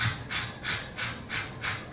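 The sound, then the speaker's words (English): Quick, rhythmic panting breaths demonstrating labor breathing for a natural childbirth class, about six short huffs in steady succession, moderately loud with no talking. “Now, when you go into labor, you must breathe like so.”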